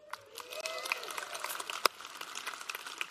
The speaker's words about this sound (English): I didn't say that for an applause.